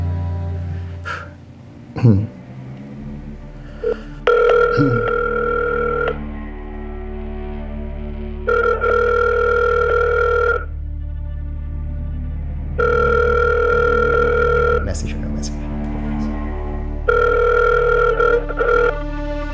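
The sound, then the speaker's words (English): A phone line rings out over the receiver: four steady, buzzy two-second ringback tones separated by short pauses. A few clicks and a low background hum come before and between them. “Should I try to call it for fun? Yeah. Just a random phone number.”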